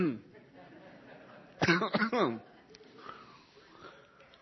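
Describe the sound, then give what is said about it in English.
A strained burst of choking coughs and throat clearing, two or three harsh rasping pushes in quick succession midway through, with quiet breathy stillness before and after. “I don't choke to death up here. Let me see if I can get through this.”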